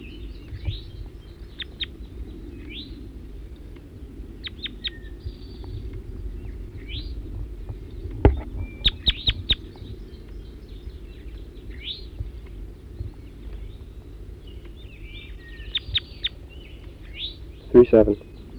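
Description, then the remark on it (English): High, thin chirps of a wild male bird repeat in scattered bursts over a steady low rumble, with a louder cluster of sharp calls near the end. “Back to the wild bird.”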